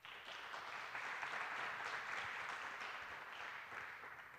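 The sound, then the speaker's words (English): Steady audience applause welcoming a speaker to a talk on computer-aided design for serious Lego fans, a dense wash of many hands clapping at an even, sustained level for several seconds before tapering slightly at the end, with no voices over it. “Give him a warm applause.”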